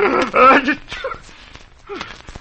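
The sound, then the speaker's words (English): A loud, voiced sneeze bursts out at the start, followed by a few softer breathy gasps and small vocal sounds. “Don't sneeze, Sputters, don't sneeze.”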